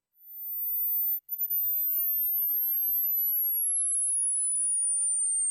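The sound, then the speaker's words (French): A single piercing, very high-pitched electronic tone rings steadily, gliding slowly downward in pitch over several seconds, with a brief dropout near the start and no voices. “Ultrason-nous! Y'a ultra! Ultrason!”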